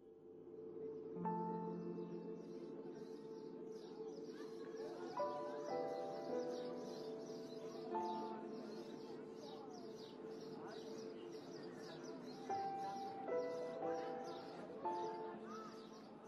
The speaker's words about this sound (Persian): صبح آمد و چهره زمین اوریان شد، شب در خم و پیچ ناکجا پنهان شد، خمیازه ممتد خیابان محو از موسیقی جیک جیک گنجشکان شد.